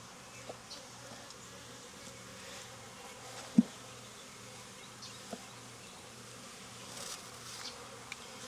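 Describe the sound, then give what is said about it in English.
A steady, dense hum of honeybees buzzing around an open hive during a hive inspection, low and continuous throughout, with a couple of brief clicks or knocks breaking through the drone. “Full capped honey on the drone comb frame.”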